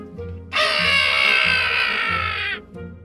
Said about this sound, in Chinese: 吉姆以为又有人被杀害了，心头一震，等到看见希尔佛手臂上有一堆光洁的鸟羽毛，才想到原来是鹦鹉弗林特船长的叫声。